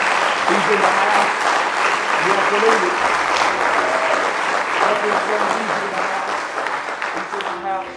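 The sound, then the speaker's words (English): A church audience claps hands loudly and steadily in praise of God for several seconds, a dense wash of applause, with scattered voices calling out and cheering underneath. “Give Him one more real good hand clap of praise.”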